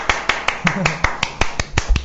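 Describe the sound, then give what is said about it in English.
One person, a radio host on Phoenix FM, claps after a band's live session track: about a dozen sharp, evenly spaced claps in quick steady rhythm, with a faint voice murmuring briefly underneath. “Made sure I turned my microphone back up so everyone could hear me applause.”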